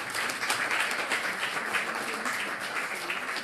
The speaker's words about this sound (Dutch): Dank u wel. Het klonk bijna ook als een applaus van waardering.